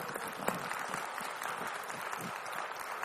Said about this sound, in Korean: 아이, 내가 박수하라 그러려고 그랬는데 먼저 하니까 그냥, 어? 잘 안 하잖아요.